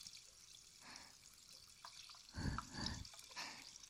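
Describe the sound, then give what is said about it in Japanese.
A fizzy drink is poured, with a steady soft crackling fizz throughout and a couple of fuller gurgling splashes of liquid near the end. No one speaks. “シュワシュワした音が耳に広がっていってるんじゃないかな。”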